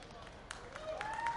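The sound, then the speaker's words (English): A baseball stadium crowd cheers as a fan throws the baseball to a much younger fan, a diffuse roar swelling slightly with scattered claps and a rising whistle-like tone cutting through. “As a fan gets a cheer for throwing the baseball to a much younger fan.”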